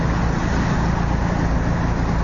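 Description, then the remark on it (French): Steady roar of road traffic with cars and heavier vehicles rumbling past, a continuous low engine drone filling the background without any voices. “On est sans moteur, mais les autres ne le sont pas. Hein. Ça s'entend, hein?”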